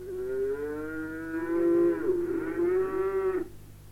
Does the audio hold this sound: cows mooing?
yes